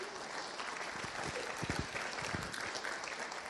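A crowd applauds a new pastor on staff, a dense wash of many hands clapping at an even, moderate level for the whole stretch, with a few sharper claps standing out midway.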